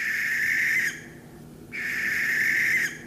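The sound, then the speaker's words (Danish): Water rail calls: two long, high, piercing squeals, each lasting about a second with a brief pause between them, loud and with no other sounds around them. “Ah, jeg tror, du tænker på vandriksen.”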